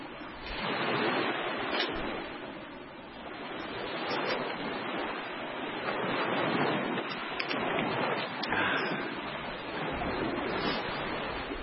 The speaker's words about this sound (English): How about some water sounds? Anyone like water out there? There we go. There's some water sounds coming on.